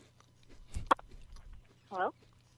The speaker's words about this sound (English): Stop your chewing.